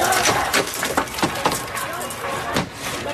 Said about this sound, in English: Early this morning, a group of students broke into a building on campus grounds, smashing windows and barricading the doors.